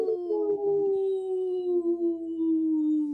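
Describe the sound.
People imitate a wolf howl on the radio show Native Roots Radio Presents I'm Awake, in a segment supported by the wolf-protection group Howling for Wolves: one long, sustained sliding tone that drifts slowly downward in pitch, loud and steady for about three seconds with faint overlapping voices underneath.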